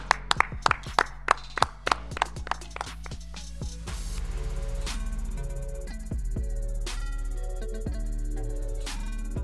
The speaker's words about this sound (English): Well done. Clap it up.